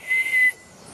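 A bellbird (pájaro campana) call in primary forest on a family farm in Costa Rica: one loud, pure, ringing whistle-like note held for about half a second, then cut off, leaving a soft steady hiss of forest background.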